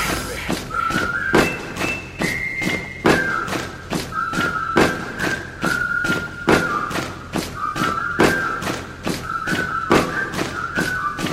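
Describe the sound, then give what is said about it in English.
Feet stomp on the floor in a steady, driving rhythm, about two heavy thuds per second, loud and close, with a high whistling tone running over the beat. “I said stomp with me.”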